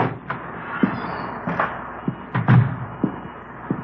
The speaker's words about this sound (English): It was 1:15 p.m. when I got to 4656 Collis Avenue. The front door.